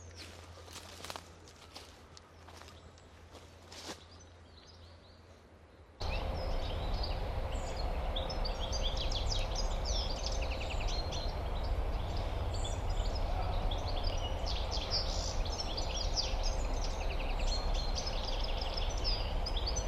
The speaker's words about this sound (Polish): Tu dzięcioł, tu. Na drzewie samiec. Może podejdźmy pod drzewo, z którego śpiewa, zobaczymy. Może się uda ta sztuka. Są dwa. Szczegóły, jeden odpowiada drugiemu.